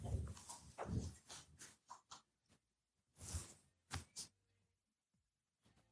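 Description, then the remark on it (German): A dog barks in a series of sharp, irregular bursts, several quick barks clustered early, then a few more after a short pause, moderately loud, with no one talking. “Und das Perfekte ist genau beim Perfektionistischen, ist so lustig, bellt”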